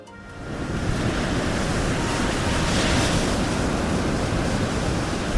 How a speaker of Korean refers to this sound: 파도가 굉장한 걸!